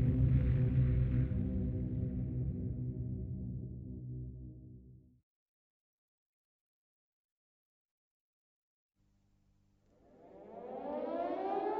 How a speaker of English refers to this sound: Late in the evening, on the 17th of August 1943, the air raid sirens at Peenemünde began to sound.